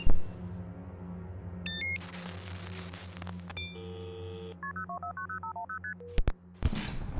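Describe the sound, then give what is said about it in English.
A rapid sequence of telephone keypad tones, about a dozen short electronic beeps in quick succession as someone dials a phone call, followed by a couple of brief clicks, clear over a low hum. “I need to call Sam.”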